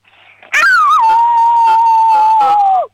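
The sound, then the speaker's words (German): A six-year-old girl from Vorarlberg imitates a wolf howl: one loud, sustained high wail that rises sharply, then holds a steady pitch for about two seconds before sliding down at the end. “So, und jetzt hätte ich gern, dass du heulst wie ein Wolf, aber so richtig laut.”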